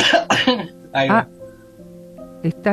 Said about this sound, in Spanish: Estoy con un ataque de tos.